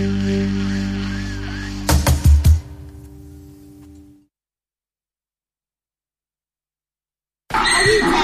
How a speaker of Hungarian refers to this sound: Egy csacsi, egy szamár. Egy szamár, igen. Most jelenleg a szamár pancánk a tavalyi csikójával él együtt, a csődör pedig elkülönítve, és nyilván ilyenkor a csődör azért rendszeresen hallatja a hangját, hogy kommunikáljon a párjával.